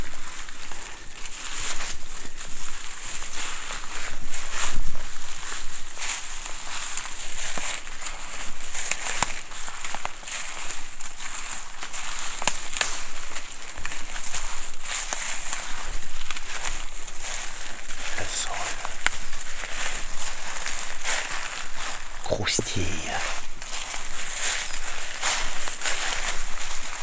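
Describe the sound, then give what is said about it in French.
Steady crunching and crackling footsteps descending through a forest in the Baronnies, over a layer of dead leaves and dry wood a few to about ten centimetres thick: a continuous rustle with irregular sharper snaps, fairly loud and without any voices. “À mes pieds, un tapis de quelques centimètres, voire une dizaine de centimètres de feuilles mortes et de bois sec.”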